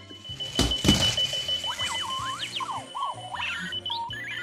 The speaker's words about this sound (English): the alarm clock that really gets around